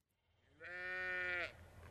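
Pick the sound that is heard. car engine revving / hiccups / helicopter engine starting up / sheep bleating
sheep bleating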